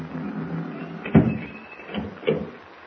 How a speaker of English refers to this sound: Close the door. Bolt it.